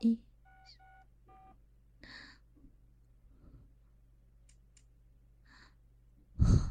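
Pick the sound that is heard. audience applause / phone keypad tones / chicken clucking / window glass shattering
phone keypad tones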